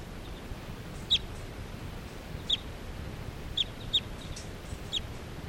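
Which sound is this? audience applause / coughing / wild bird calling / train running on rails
wild bird calling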